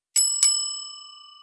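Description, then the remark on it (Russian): A doorbell at the door to a closed section of an apartment building corridor, rung by pressing the button to the left of the door, sounds two quick metallic strikes, leaving bright, high-pitched tones that hang in the air and slowly fade. No one speaks. “Перед нами дверь в закрытую секцию коридора, слева кнопка звонка.”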